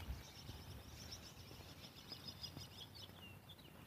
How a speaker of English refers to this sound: My goodness. Bird action here this morning. There's a robin flying alongside me.